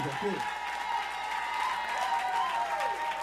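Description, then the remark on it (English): An audience applauds a band, a steady, dense wash of clapping that holds at an even level for a few seconds, with faint crowd voices mixed in. “Together and give the band a tremendous round of applause.”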